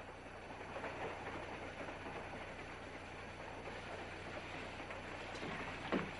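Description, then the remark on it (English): An old steam train under a full head of steam, driven by the engineer Luke, rolls steadily along the rails, a continuous rumbling clatter with a faint rhythmic clack, and a brief sharper squeal just before it ends. “And Luke the engineer's got a full head of steam in this old tar bucket.”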